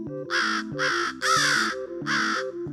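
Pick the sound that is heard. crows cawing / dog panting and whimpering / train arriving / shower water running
crows cawing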